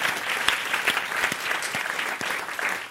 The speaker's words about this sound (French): On applaudit le septième une deuxième fois, allez.